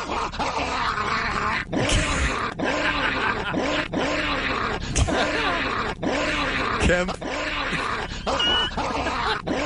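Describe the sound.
A man's voice imitates a dog, letting out a steady run of rough, growly barks and grunts, roughly one per second, loud.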